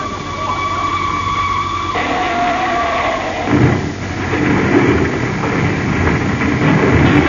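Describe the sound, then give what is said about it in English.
A train approaches a crossing with closed gates, its horn blaring in a steady multi-tone blast before a loud, rumbling roar of wheels and engine swells, with no one talking. “The gates are closed and the train is coming.”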